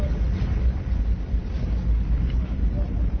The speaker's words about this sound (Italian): In questo momento il traghetto è partito, stiamo sentendo dei rumori inquietanti. C'è un rombo pazzesco.